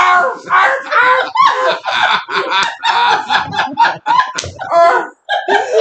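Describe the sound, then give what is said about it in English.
A person imitates a dog barking, letting out a rapid string of loud, hoarse yelps and barks, with a short pause near the end before a final burst. “You need to bark like a dog.”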